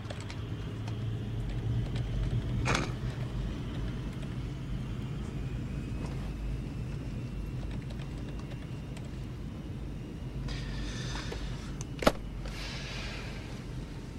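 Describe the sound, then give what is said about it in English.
An aeroplane is towed to its takeoff position with a steady, low engine rumble throughout. A couple of sharp knocks cut through, one early and one near the end, with a brief hiss just before the second. “As the aeroplane is towed to its takeoff position,”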